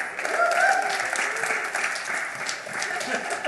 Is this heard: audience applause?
yes